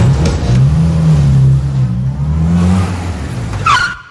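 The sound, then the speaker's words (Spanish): A car engine drones and revs steadily and loudly for several seconds, then a sharp, high tire screech signals sudden braking just before the sound cuts off. “Y frenazo.”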